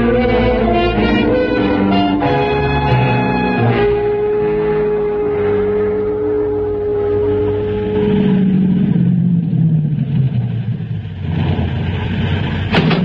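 A car engine drones steadily, a loud continuous hum that drops in pitch as the vehicle slows toward the end. No one speaks.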